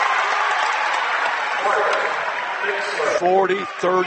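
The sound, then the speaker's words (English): Basketball fans cheer on the Rockets at a game on the UD hardwood, with Montessori leading 40-39, in a steady, dense roar of crowd noise that holds for several seconds, with a man's voice briefly speaking over it near the end. “And the fans behind us cheering on the Rockets as Tired and Green on the UD hardwood.”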